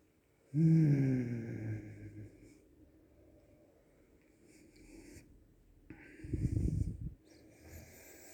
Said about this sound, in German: Tiefes Atmen.